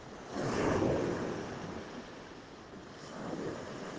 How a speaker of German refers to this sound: Untermalt von den Klängen des Meeres.